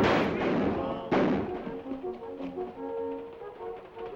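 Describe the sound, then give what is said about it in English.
Gunfire as hunters pour from an abandoned train carriage firing their guns: two loud, sharp bangs about a second apart, each with a ringing tail, followed by softer tonal sounds that resemble voices. “The hunters pour from the abandoned carriage, firing their guns.”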